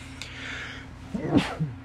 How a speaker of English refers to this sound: So next, excuse me for one second, I gotta sneeze. Hold on.